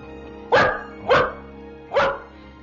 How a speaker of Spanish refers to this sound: Balú ladró impaciente.